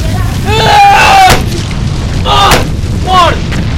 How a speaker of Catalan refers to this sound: Un cop al cap.